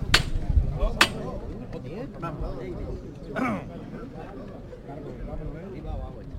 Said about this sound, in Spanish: Suena el martillo.